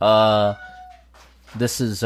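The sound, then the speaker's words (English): A loud cat meow opens with a sustained, drawn-out tone that fades away, followed after a brief pause by a couple of shorter, choppy vocal sounds. “hosted by my wife, hosted by a marriage togetherness of couples, and also apparently a loud cat.”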